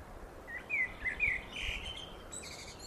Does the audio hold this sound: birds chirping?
yes